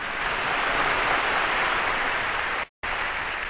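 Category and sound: crowd, audience applause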